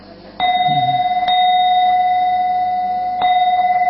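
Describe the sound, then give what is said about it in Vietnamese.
A temple bell is struck three times at an uneven pace, two strikes close together and then a longer pause before the third, each leaving a bright, steady ringing tone that hums on. “Ben chứ không có đánh đều nhau nha, hai cái nhặt cái khoan.”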